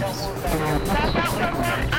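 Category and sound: vehicle, passing car traffic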